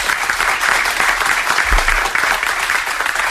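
Steady, dense applause from a room full of journalists from all over the world, many hands clapping in a continuous bright crackle at an even, fairly loud level throughout, with no voices standing out.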